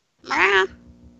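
A single short meow from a cat, bright and fairly loud for about half a second, then fading into a faint low background hum.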